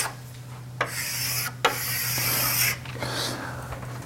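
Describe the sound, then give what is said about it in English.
Someone draws a diagram of a flat plane on a board during a lecture: a few long, scratchy, hissing strokes separated by short pauses, over a steady low hum, with no talking. “Well, I can easily draw a flat plane.”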